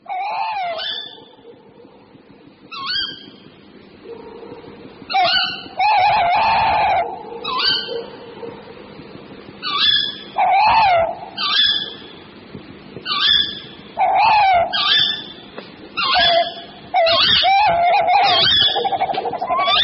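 A male tawny owl, excited as a calling female approaches, hoots repeatedly in loud, wavering bursts that break into quivering tremolo phrases, the mid-pitched calls coming in uneven series with short pauses between them and no voices.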